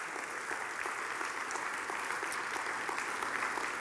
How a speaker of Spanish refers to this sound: Aleluya, den un aplauso al Señor.